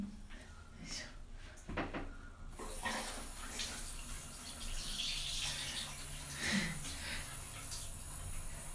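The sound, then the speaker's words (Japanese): A shower runs steadily as a broad, hissing spray that starts abruptly after a few clattering knocks and continues fairly loud to the end. “あんまりシャワーの音、シャワー水を強くなめすぎないようにしてやっていきますね。もうこの水の音聞いただけで癒されない。”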